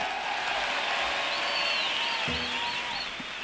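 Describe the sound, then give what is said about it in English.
A crowd applauds steadily, a dense wash of clapping that stays loud throughout, with a few whistles rising above it and faint voices mixed in. “I'd like to share that round of applause with some gentlemen that have been working hard up here.”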